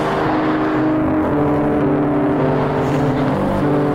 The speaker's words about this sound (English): And I hope you could hear most of this, because I know the traffic's loud. Man, I hope you could hear it.